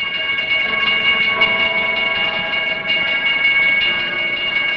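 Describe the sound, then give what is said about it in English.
An N&W train approaching Rural Retreat, where there are two sets of crossing gates, produces a steady, sustained drone of layered high tones. It holds an even loudness throughout, with a faint rhythmic pulsing beneath it and no voices. “The sound of the train as it approaches, you listen to that train, you can hear that from a long way off.”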